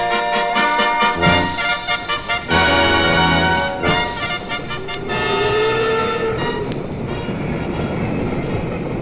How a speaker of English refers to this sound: You are on that train again, on pass, on that familiar ride from Kasern to city. Remember? From your window, you watch the German countryside speed by.